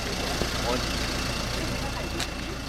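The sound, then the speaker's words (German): A small turquoise bus idles steadily as it pulls into the turning loop at the small single-track railway station of Garding on the Eiderstedt peninsula as the train arrives, a constant low rumble with a faint brief hiss near the end, and a voice may murmur in the background. “In der Wendeschleife, in der auch einige Autos parken können, fährt mit der Ankunft des Zuges ein kleiner türkisfarbener Bus ein.”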